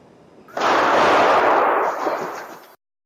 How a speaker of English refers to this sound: This morning, two people are in custody after a deadly mass shooting at an El Paso mall. Police are working to learn what led to the shooting. New video shows the moments people ran to escape gunfire.